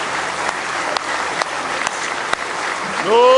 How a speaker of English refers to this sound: Are you glad He loves you? Give Him a good hand clap of praise if you love Him with all your heart.